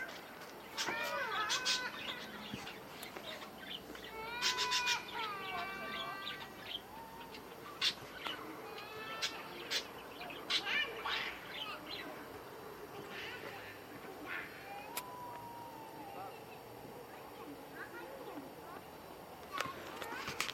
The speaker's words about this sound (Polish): Witajcie, ja już dzisiaj próbowałam zrobić nagranie, bo moja pani sąsiadka ma papugi, ale papugi były cicho, a teraz krzyczą, więc ja tutaj sobie pójdę i ja spróbuję nagrać, jak te papuszki pięknie śpiewają.